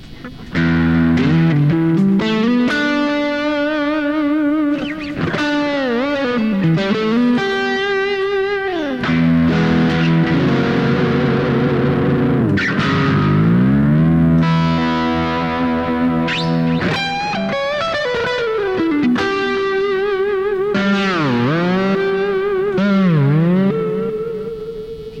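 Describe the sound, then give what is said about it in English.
An overdriven electric guitar, played by digging in to get an overdriven sound, plays loud, sustained notes and chords with heavy bends and sliding pitch swoops, a continuous gritty tone filling the whole passage with no talking. “when you can back off and get a clean sound or dig in and get an overdriven sound, that range is deeper and more sensitive.”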